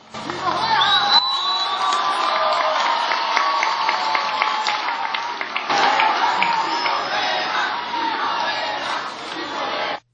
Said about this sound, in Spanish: Los jóvenes cubanos fueron muy receptivos al mensaje del Papa, y mientras éste daba su discurso frente a la Catedral de La Habana, ellos le respondieron a coro.